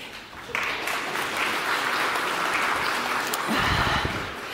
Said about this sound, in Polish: Wielkie brawa jeszcze raz.